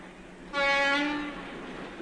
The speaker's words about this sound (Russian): Был июньский вечер, накрапывал дождь. Шел поезд по Стрелецкой железной дороге.